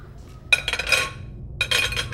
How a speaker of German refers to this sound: Hören Sie bitte auf, Frau Risse. Das ist lauter schmutziges Geschirr. Das muss in die Spülmaschine.